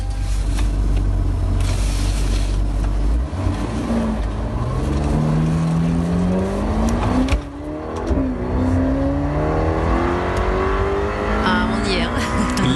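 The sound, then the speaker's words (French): A Ferrari Portofino sports car with a 3.9-liter twin-turbo V8 engine of 600 horsepower revs loudly, its pitch climbing and dropping in repeated surges after a low rumbling idle, with a sharp throttle blip midway through. “Quoi qu'on nous dise sur les vertus des voitures électriques, le bruit que vous allez entendre quand on aime ça, c'est l'adrénaline assurée pour toute la journée.”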